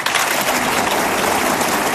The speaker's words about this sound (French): Je vais vous demander d'applaudir à la guitare ce soir,